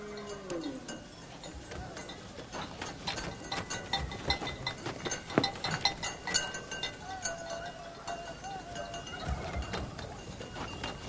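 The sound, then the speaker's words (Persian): Sheep bleat a few times amid a busy farmyard, with brief wavering calls over a steady clatter of rattling and knocking noises that fill the scene. “مانع گوسفندان که نمیتوان شد پدر.”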